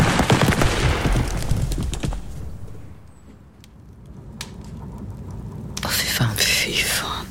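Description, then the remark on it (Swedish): A firing squad's gunfire volley executing four men sentenced to death under Swedish law, the first use of the death penalty since new terror laws: a dense burst of overlapping sharp cracks that fades over about two seconds, a lull, then a rougher, noisier burst near the end. “Detta är första gången dödsstraff tillämpas sedan de nya terrorlagarna infördes.”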